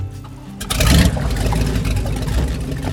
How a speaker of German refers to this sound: Achtung, die Fähre startet gleich. Der Fährmann lässt den Motor an.